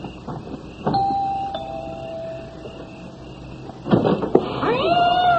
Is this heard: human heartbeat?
no